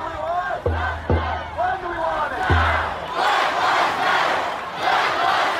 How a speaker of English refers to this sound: Protesters gathered by the thousands this weekend to speak out against police brutality.